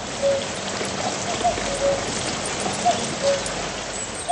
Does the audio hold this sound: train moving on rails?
no